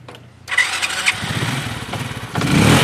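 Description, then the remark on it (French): A motorcycle engine cranks and catches in Bouaké, central Côte d'Ivoire, then idles with a rough, throaty rumble before revving louder toward the end, with no voices. “Ici à Boaké, la moto est reine.”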